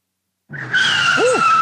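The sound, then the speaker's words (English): A car's brakes squeal sharply as its tires skid, a shrill sustained screech with a steady high whine and a brief rising-falling tone near the end, loud and with no talking. “If you set people's teeth on edge every time you step on the brakes, it's time you visit Muffler World on Mackey Street.”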